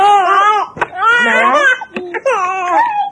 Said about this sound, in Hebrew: חמודה, מה את אומרת לו? מה את אומרת לו שהוא בוכה ככה? מה את אומרת לו שהוא בוכה? איך את מרגיעה אותו?